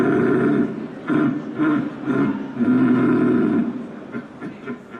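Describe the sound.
A person imitates a rutting stag, letting out a series of deep, drawn-out guttural roars, loud, with short breaks between them before trailing off into quieter grunts.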